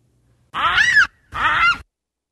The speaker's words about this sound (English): Well, let's hear a baboon scream.